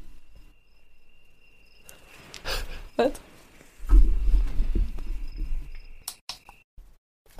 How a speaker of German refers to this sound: das war Sarahs Tageslichtwecker mit Grillenzirpen